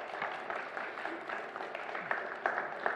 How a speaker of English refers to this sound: They were absolutely heroes. Just give them a round of applause, actually.